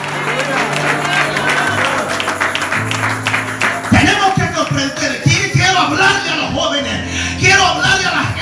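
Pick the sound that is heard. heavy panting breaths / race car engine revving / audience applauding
audience applauding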